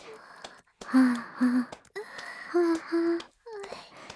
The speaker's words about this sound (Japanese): はあ、はあ、息遣い荒くなってるよ。正直なのはいいけど、わかりやすすぎだって。